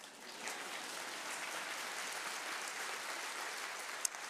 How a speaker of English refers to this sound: And it's worth it, right? It's worth it. You can applaud now, go.